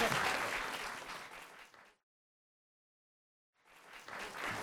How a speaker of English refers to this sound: A round of applause again, guys. Come on. Thank you.